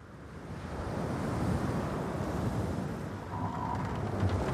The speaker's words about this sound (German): Die Adventure Galley rauscht durch den Atlantik Richtung Südafrika. Der Wind weht frisch und salzig und der Matrose im Krähennest wischt sich die Gischt aus dem Gesicht. Der Horizont ist neblig und schaukelt auf und ab.